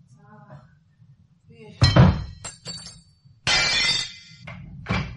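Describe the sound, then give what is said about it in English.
Stained glass windows shatter after being hit by a stone, in several loud, crashing bursts, with sharp tinkling shards ringing out after each impact. A faint voice and low background rumble precede the breakage. “Something breaking? A window?”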